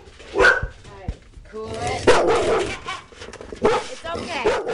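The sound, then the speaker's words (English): Three large dogs at a home in Springfield, Massachusetts bark loudly in several rough, overlapping bursts spread across a few seconds, with brief pauses and some whining between them. “lives with her three large dogs in a modest two-story cape in Springfield, Massachusetts.”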